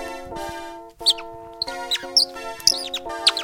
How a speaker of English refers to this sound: Whoa, you see that funky parrot? Yeah, what's a parrot doing here in the forest? Yeah, the exotic parrots of Berlin.